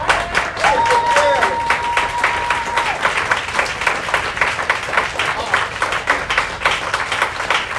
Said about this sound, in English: I just wanted to go back to last week because the young lady that we honored last week is here. And I wanted to know if everybody could just stand up with me and just give her a round of applause. Come on.